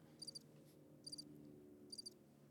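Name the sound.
crickets chirping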